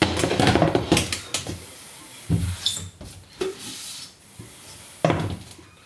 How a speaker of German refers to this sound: Ja, die Tür quietscht.